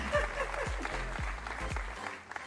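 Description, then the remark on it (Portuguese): An audience claps steadily in a dense, continuous wash of applause, with a few deep low thumps recurring roughly every half second beneath it. “Uma salva de palmas, doutor Dionísio.”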